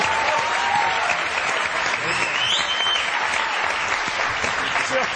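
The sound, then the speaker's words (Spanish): Sustained audience applause for the programme's host, Javier Cansado, a dense, steady wash of clapping at even loudness throughout, with a faint whistle rising briefly through the middle. “Un aplauso para Javier Cansado.”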